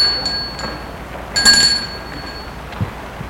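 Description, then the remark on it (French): A doorbell at the door of a house rings in a short, bright, high-pitched burst, its clear metallic tones lingering and fading, with a fainter chime beforehand and no voices. “Gilbert sonne.”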